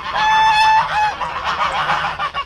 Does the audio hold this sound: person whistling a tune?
no